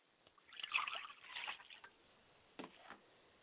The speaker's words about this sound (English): So listen while I do the ritual of pouring libation. I pour libations to my mother's spirit, Yamanja, and I say Ashe.